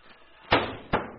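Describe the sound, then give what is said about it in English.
A back door opens and closes: two sharp wooden bangs about half a second apart, the first louder, each trailing off quickly, preceded by a low, faint rumble and no voices. “there's the back door. I'll see who it is.”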